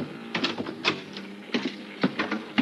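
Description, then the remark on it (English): A series of light, sharp taps on a wooden cabin door aboard a ship at ten o'clock at night, coming in uneven little clusters over a couple of seconds, fairly quiet with no voices. “10 o'clock that night, there was a tap on my cabin door.”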